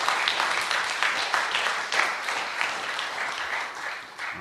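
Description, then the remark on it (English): A crowd applauds steadily, a dense wash of many hands clapping with slight swells in intensity, fading a little toward the end. “All right, let's clap it up, man.”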